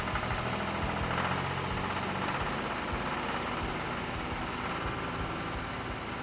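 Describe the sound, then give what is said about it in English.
A vehicle engine runs loud as the accelerator is pushed to the floor to race to the top of a field, smoke shooting out the exhaust, a steady throaty rumble with a gritty vibration and no pauses, holding its roar for several seconds without any voices. “My engine roars.”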